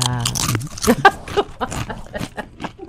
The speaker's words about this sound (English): What do you think that is? It's something crunchy. We are having food here this morning. Those are chips from Pepe's